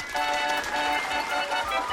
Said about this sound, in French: Je tiens à vous dire ma grande émotion en vous applaudissant très fort.